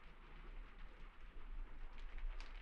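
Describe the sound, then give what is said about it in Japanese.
Steady, soft rain hisses evenly across the whole stretch, with a low rumbling undertone and faint scattered patters near the end. No one speaks. “それにこの雨の中、傘もささないなんて。”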